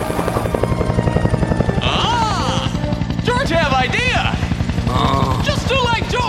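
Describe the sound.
A helicopter with a ladder hanging from it hovers, its rotor beating in a loud, rapid, steady thump throughout, while raised voices call out over the din.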